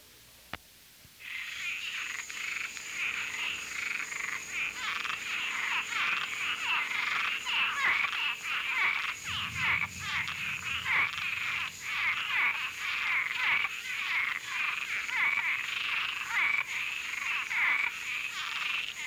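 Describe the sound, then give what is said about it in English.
A loud, continuous chorus of frogs of the largest tree frog species found in Florida, an invasive species, giving rapid, raspy chuckling calls that overlap steadily, with no voices present. “This is the largest species of tree frog found in Florida.”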